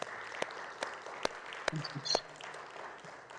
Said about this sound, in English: Let's give a good clap offering unto the Lord God Almighty.